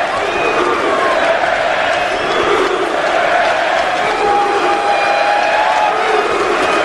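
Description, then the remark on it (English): A large hockey crowd in Vancouver chants Bruce Boudreau's name in unison as the Canucks lose 4-2 to the Oilers, a loud, sustained wall of massed voices that holds steady for the whole stretch without a break. “And Bruce Boudreau is getting emotional behind the Vancouver bench as the fans are chanting his name.”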